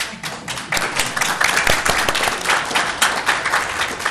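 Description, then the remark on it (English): Applause from a crowd fills a Senate hearing room, a dense, steady patter of many hands clapping at once, loud and sustained throughout with no voices rising above it. “In the Senate, they say you're not supposed to be able to applaud or hold up any signs.”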